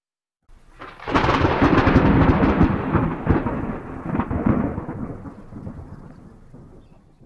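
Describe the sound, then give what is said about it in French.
A loud rumble of thunder, imitated by a brother assigned to the task during a candidate's initiation ritual, erupts suddenly, crackling and roaring for a couple of seconds before slowly rolling away and fading out. No one speaks. “Aussitôt, le frère préposé à cet effet imite le bruit du tonnerre.”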